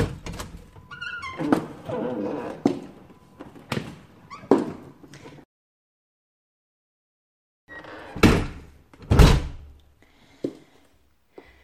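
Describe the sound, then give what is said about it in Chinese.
A door is opened by the owner coming home, with a cluster of sharp clunks and handle rattles, falls silent for a couple of seconds, then a few more heavy thumps follow, with no talking. “你他妈的听到主人的开门声都不知道过来迎接主人吗？”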